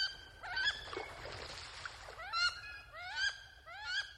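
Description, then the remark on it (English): Wood duck calls: a series of rising, squealing whistles repeated about five times at a steady pace, clear over a faint low rumble, with no talking. “If wood ducks do move in, be prepared for as many as 16 chicks to follow their mother out of the nest.”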